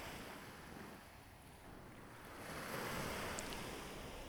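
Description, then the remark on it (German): Waves roll in at the sea with a soft, broad hiss that swells toward the end as the surf runs out on the shore with a small hissing sound, mixed with a steady rush of light, warm wind and no voices. “Sie spüren den leichten, warmen Wind, die heranrollenden Wellen, die mit einem kleinen Zischlaut am Ufer auslaufen, wirken beruhigend.”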